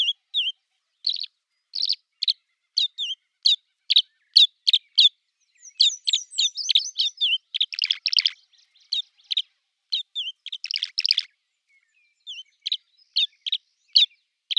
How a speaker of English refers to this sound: Tree swallows are vocal. Listen for their sweet chirping calls as they wheel around overhead in pursuit of insects.